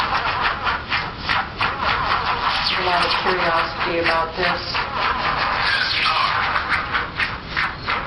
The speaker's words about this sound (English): Sounds like an old Model T car trying to start, doesn't it? Well, this is another location, and these are examples of how different the boxes can sound in environments.